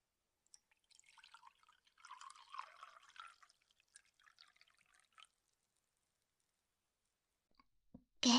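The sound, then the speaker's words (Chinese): Water is poured into a cup in a soft, steady trickle lasting about four seconds. A quiet pause follows, then a brief, louder knock at the very end. No one speaks. “对了，师傅，你喝水吗？刚刚醒，可能会口渴，我帮你倒水啊。”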